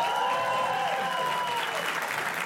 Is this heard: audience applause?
yes